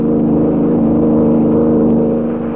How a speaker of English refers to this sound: Finding Lois and the bill of sale missing, he and Kelly give chase in a high-powered car.